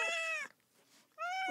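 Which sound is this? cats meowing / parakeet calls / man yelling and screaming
cats meowing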